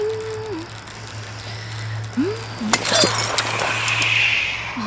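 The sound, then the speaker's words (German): Glass shards crunch and clink under a rolling wheel in a short burst of bright crackles, heard over a steady low hum with a few faint sliding hummed tones. “Welches Arschloch hat denn ausgerechnet hier Scherben liegen lassen?”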